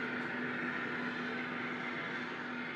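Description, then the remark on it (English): A steady industrial hum from the Western Sugar Cooperative sugar beet factory in Torrington, running in its busy season: a constant low tone and a broad mechanical whir above it, unchanging throughout. “Now is the busy season for the plant, and you can hear it hum.”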